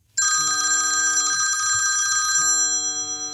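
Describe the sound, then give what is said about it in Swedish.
A telephone rings for an incoming call late one evening in October, with a bright, continuous electronic trill that starts abruptly and sustains, loud, with faint low tones pulsing underneath; no one speaks. “Sent en kväll får jag ett telefonsamtal”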